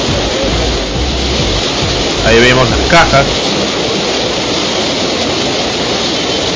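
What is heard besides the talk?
rushing river floodwater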